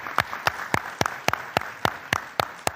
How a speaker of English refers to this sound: I thank you all for participating, and I thank most particularly the representatives of the regional economic communities. Please join me in giving them another round of applause.